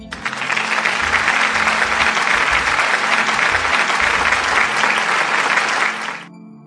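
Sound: applause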